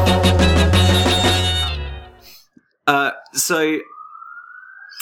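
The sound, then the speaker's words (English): A siren wails outside, its steady rising tone carrying through after a loud, dense burst of sound and a couple of short vocal bursts, clearly audible. “Sorry, I'm just going to wait for the siren to go.”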